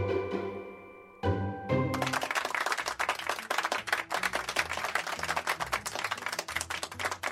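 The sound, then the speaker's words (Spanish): A few sustained musical notes ring out and stop, then a crowd breaks into steady, dense applause after a poem reading that continues loudly until the end, with no one speaking. “Qué menos que ese aplauso,”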